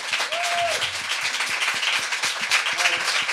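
A crowd applauds steadily for several seconds, a dense, even wash of many hands clapping at a constant loudness, with a couple of brief faint voice-like tones rising through it.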